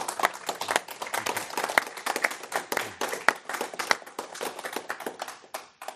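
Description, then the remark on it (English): An audience applauds steadily after a presentation, a dense patter of many hands clapping at a fairly even level throughout, with no one speaking over it. “So for our audience, a big hand of applause for their wonderful work.”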